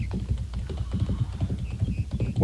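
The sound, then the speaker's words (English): The hooves of a horse, just mounted from the right side by its rider, clip-clop in a steady, rapid rhythm, moderately loud, with a few faint high tones in the background and no talking. “He just propelled himself up on that horse.”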